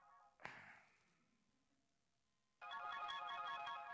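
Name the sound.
telephone ringing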